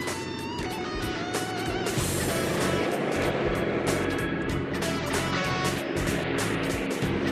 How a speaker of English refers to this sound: From here, we'll have a perfect view of the water bomber picking up the water.